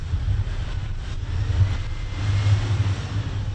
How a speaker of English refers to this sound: A sign of a possible breakthrough in easing the humanitarian suffering inside Gaza as trucks filled with humanitarian aid that have sat idle for days in Egypt are now on the move, crossing into southern Gaza.